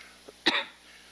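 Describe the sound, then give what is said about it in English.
A single sharp, fairly loud cough, preceded by a faint catch of breath, then fading into quiet with no talking. “When I start coughing, it gets ugly.”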